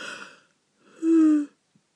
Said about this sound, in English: See, I'm yawning, but I'm not actually tired.